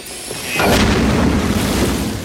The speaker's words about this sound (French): Ah, attention, ça va péter!